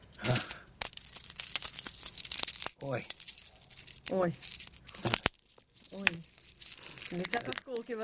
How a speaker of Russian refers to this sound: Стекло щелкает. Нежная девичья ручка, да, значит. Да. Стекло хрумкается, так вот, ломается.